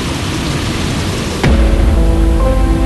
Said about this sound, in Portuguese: Bom, nesse momento ela desligou as hélices, desligou o motor. A gente só escuta o barulho do vento.